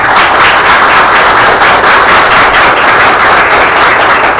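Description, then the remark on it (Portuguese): A crowd applauds Professor Maria Leopoldina, representative of Brazil's MEC, many hands clapping steadily in a dense, even wash of sound that stays loud throughout, with no voices heard over it. “Vamos aplaudir a professora Maria Leopoldina.”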